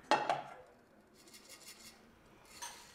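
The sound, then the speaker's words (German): Dishes clatter in the kitchen of a student dormitory: a sharp ceramic clink and clatter at the start, then softer scraping and rustling, with another brief clink near the end. No one speaks. “Ja, also hier findet eigentlich also die ganze Unterhaltung mit den Nachbarn statt, wenn man sich da mal beim Kochen trifft oder beim Abspülen.”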